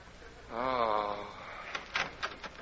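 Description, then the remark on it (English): A door creaks with a wavering, drawn-out groan, followed by a short series of sharp thuds and clacks as it shuts behind someone leaving, with no one talking. “The new church just went out that door.”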